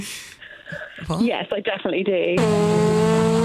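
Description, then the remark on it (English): A zebra fart: after a brief stretch of talking, a loud, sustained low buzz with a brassy, trumpet-like tone holds steady at one pitch for about a second. “Okay, zebras, do they fart?”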